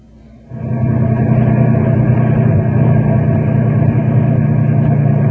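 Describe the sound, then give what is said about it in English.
Heavy engines of a caravan of six large trucks start up after a brief quiet moment, then hold a steady, loud, low rumble with a droning hum. “There's the caravan ahead. Wow! Look at the size of those trucks, will you?”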